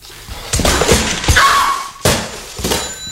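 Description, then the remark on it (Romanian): A telephone being smashed: five or so loud, heavy crashing blows in uneven succession, with a brief metallic ring sounding after one of the hits. No voices. “Ai distrus telefonul!”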